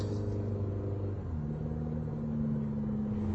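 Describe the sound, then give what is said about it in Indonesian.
A ride-hailing car drives steadily along a quiet road at night, its low engine rumble and hum holding a constant drone with a slight shift in pitch partway through, and no voices. “Ku dengar hanya suara mobil yang melaju di tengah sepinya malam itu.”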